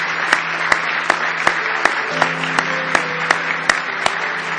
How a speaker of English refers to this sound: Let's give them a nice hand this morning.